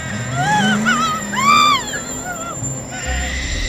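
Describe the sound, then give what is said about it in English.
A stolen car's engine revs and whines as it accelerates away, its pitch swooping up and down over a few seconds, fairly loud, followed by a low rumble. “My car has been stolen and my baby's in the back!”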